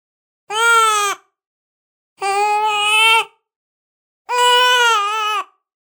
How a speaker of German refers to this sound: Tonbeispiel 5. Neugeborene am dritten Lebenstag bei deutscher Umgebungssprache. Die Melodiekontur ist einfach und besteht aus einem, selten zwei Bögen.